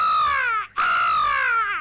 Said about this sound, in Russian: Ворона в гнезде.